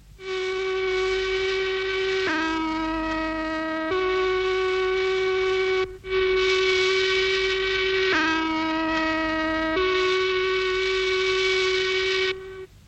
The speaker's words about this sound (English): Ladies and gentlemen, we bring you now the only recording ever made of the Christchurch Factory Whistles Choir, with broom accompaniment by our friend, George.